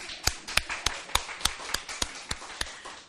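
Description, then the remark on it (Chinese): An audience claps in steady unison, about ten sharp, evenly spaced claps at a brisk beat, fairly loud over a soft crowd murmur, with no voices speaking. “咱们往上搬的拍手吧。”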